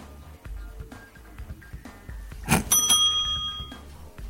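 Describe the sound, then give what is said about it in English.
A single bright correct-answer chime in a quiz game strikes about midway, a clear bell-like ding that rings out and slowly fades over the next second or so against quiet background noise. “So bear with me if there's a little bit delay before you hear the right or wrong answer chime.”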